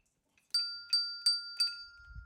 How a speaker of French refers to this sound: Mais écoutez, la cloche sonne, c'est déjà fini.